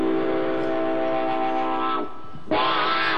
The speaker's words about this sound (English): If I listen real close, I can hear that train whistle blowing right now.